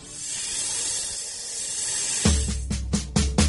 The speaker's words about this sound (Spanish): Dime si tú sabes cómo hace la serpiente, vamos a escucharla tú y yo.